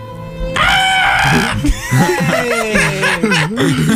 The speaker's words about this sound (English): Just screams incoherently.